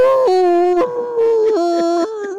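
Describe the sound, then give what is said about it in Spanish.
A voice imitates the cry of a dying 61-foot whale stuck on a ship's bow: one long, loud, mournful wail that drops, rises and drops again in pitch, with nothing else around it. “No, era que tenía una ballena muriendo.”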